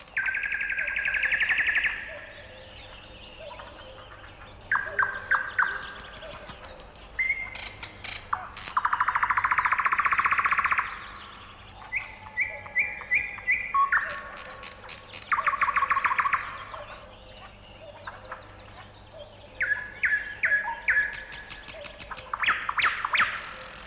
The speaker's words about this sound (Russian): А теперь послушайте соловья.